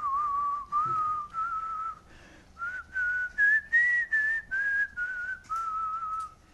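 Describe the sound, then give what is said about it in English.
Someone whistles a short, cheerful tune in a series of clear, sustained notes with brief gaps between phrases, fairly loud, with no talking. “Just whistled on а я как ни в чем не бывало, просто anyway, спокойно насвистывая вышел right?”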